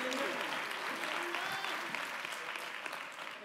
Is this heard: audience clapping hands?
yes